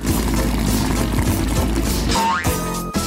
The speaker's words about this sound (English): Why are you blowing up these balloons, Professor? Are we having another party?